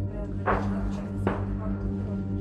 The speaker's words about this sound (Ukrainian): Знову перехід міни. Міна. Чули?